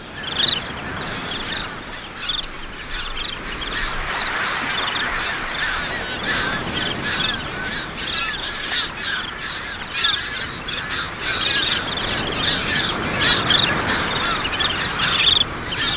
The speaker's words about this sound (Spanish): Que os voy a contar a la playa del Saler, en la Devesa del Saler, donde escuchamos el griterío de la colonia de canasteras, un ave que vive y cría en los guijarros, en las playas y en zonas muy rocosas.